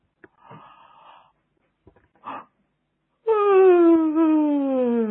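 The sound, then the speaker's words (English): A person yawns: a couple of breathy inhales and a soft click, then a loud, drawn-out voiced yawn that slides gradually downward in pitch for about two seconds. “Maybe yawn like I am.”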